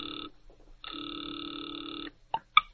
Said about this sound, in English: He has just dialed a number. Now he waits, the ringing of a distant phone in his ears.